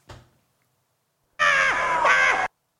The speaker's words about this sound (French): Effectivement, c'est de l'haltérophilie.